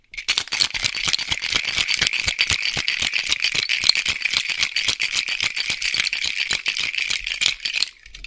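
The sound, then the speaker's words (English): A lidded cocktail shaker holding a cocktail made with ginger liqueur is shaken hard for about eight seconds, ice rattling in a fast, steady rhythm of bright clattering bursts with no talking over it. “Make sure, put the top on. Give that a little shake.”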